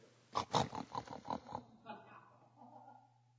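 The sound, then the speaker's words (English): Someone imitates a pig, making a quick run of about six rough, nasal snorts, then trailing off into a softer, drawn-out grunting sound. “Getting your nose down there with the pigs. Those little snotty snouts.”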